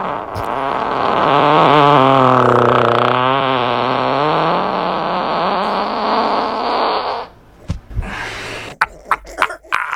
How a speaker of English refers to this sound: how satisfying would that feel if that was you and you had a 7-second fart? You know that guy has been holding it in for hours.